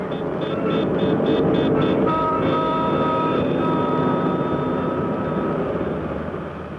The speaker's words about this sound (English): The dusty clatter of subways.